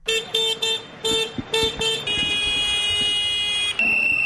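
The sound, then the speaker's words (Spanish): Several tractor horns honk in short, bright bursts, then blend into one long sustained blare with a brief shift in pitch near the end, over a steady background rumble, at a street protest of about 200 farmers and 25 tractors in the centre of Valencia. “Con este sonido como melodía de fondo y gritos del Camp Valencià Estampeu de Nou per a guanyar la batalla, cerca de 200 agricultores y 25 tractores de toda la comunidad han salido a las calles en el centro de Valencia para exigir soluciones y mejoras”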